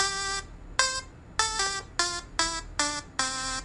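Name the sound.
timer beeping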